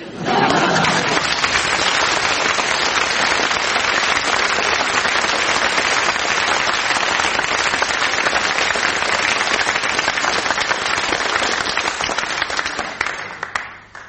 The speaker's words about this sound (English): Well, ladies and gentlemen, according to your applause, Frank wins the story, but Dennis and Antonia are the overall winners.